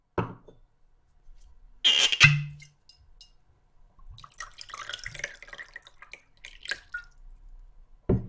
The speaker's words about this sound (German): Er stellt zwei Gläser vor mich hin und gießt Whisky hinein.